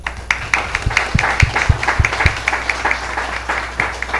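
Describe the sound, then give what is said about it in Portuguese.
A round of applause from a small group for a substitute city councillor, brisk overlapping claps with several sharper, louder hand claps standing out in a steady rhythm, no voices over it. “A gente desse uma salva de palmas para você.”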